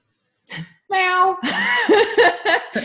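A cat meows, a short chirp followed by a few drawn-out, wavering meows that rise and fall in pitch, fairly loud and clear against a quiet background.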